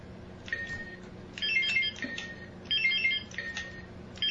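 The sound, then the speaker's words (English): Electronic quiz game buzzers are tested one after another, each a short bright tonal chime or beep pattern, repeating several times at moderate volume with no talking. “Let's do a buzzer check.”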